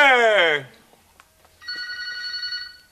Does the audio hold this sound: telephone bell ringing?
yes